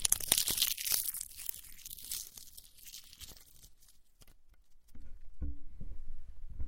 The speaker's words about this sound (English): I like the sound of leaves crunching like this.